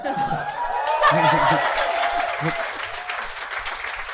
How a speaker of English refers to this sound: Let them clap. Right. Let clappers be. Little smattering there. I got two smatterings back to back.